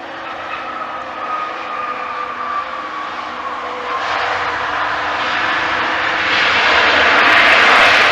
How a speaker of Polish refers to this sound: Dziś późnym wieczorem z misji wrócił lotowski Boeing 787 Dreamliner